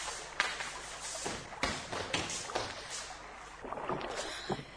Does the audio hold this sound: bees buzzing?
no